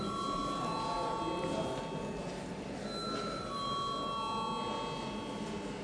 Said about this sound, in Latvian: Lūdzu zvanu.